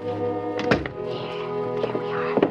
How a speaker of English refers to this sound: I'll open the closet door. Put him in right there. Stick him in good.